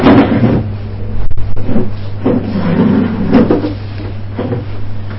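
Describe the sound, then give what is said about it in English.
Chairs being brought in and set down: several hollow wooden knocks and scrapes at irregular intervals over a steady low hum with no talking. “Someone's bringing chairs now.”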